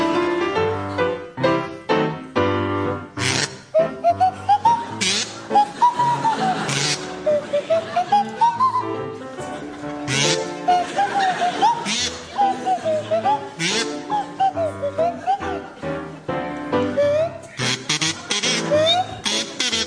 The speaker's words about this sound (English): to feature Ross Noble on the kazoo and Tim Brooke Taylor on the Swanee whistle.